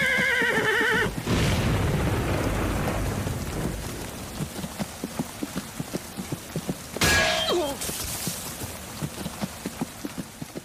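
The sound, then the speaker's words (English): A horse whinnies loudly, then its hooves clip-clop in a steady rhythm as it leaves its rider behind, whinnying again, all over a backdrop of heavy rain and a rumble of thunder. “That horse is a dick. It just leaves him.”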